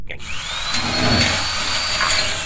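A power drill whines up to speed and grinds steadily through a locked door, a sustained, loud mechanical drone with a rising pitch at the start, with no voices.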